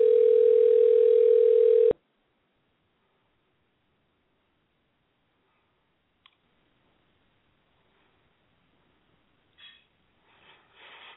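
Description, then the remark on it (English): A telephone ringback tone, heard while dialing a call that goes unanswered, sounds one loud, steady two-second burst at the start, then falls silent apart from a faint click and some soft rustling noises toward the end. “Can y'all hear the phone ringing?”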